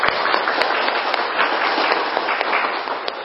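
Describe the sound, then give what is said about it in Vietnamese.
An audience breaks into steady applause, a dense wash of many hands clapping at even loudness for a few seconds with no voices over it. “Chính vì thế có lẽ chúng ta phải có một tràng vỗ tay để cảm ơn thầy.”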